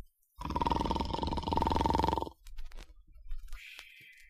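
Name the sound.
loud snoring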